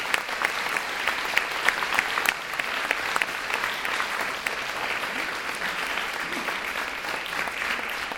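Sustained applause from a large audience for the band's bass player from North Rhine-Westphalia, a dense, steady wash of clapping that fills the whole stretch at an even level with a few sharper claps standing out.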